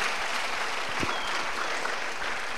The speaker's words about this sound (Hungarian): Elképesztő, fantasztikus. Hatalmas tapsot kérnék.